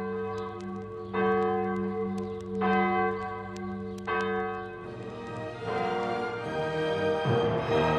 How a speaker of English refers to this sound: We heard the bells ring, but instead of ringing for the feast day, we heard the passing bells because Pius X died that day.